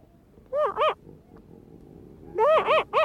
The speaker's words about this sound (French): c'est un tout jeune éléphant de mer. On aimait beaucoup les imiter, se mettre en face d'eux et les imiter.